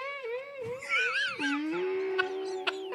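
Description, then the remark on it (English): A person imitates whale song into a megaphone with an echo sound effect: a long, wavering tonal moan that swoops up and down in pitch, rich in harmonics, then settles into a steady drawn-out hum with a couple of faint clicks. “But what I also found out is I can do whale noise into it.”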